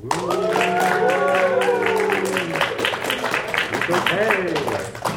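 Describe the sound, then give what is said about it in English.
An audience claps politely for about five seconds to rate Bentley Bear, a dense patter of many hands at an even, moderate level, with several voices calling out and talking over it. “That so was polite applause.”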